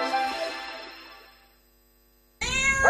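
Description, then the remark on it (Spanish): A pet cat meows in a long, drawn-out cry that fades away, then after a brief silence a second loud, high-pitched meow begins abruptly. No one speaks. “Te están pidiendo que entres en zooplus.es y les compres todo lo que necesitan.”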